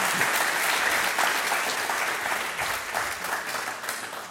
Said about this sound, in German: Ja, Applaus für die Mama.